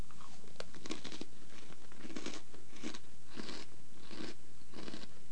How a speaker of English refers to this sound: I love the sound of crunching. So soothing. How many times are you going to chew, man?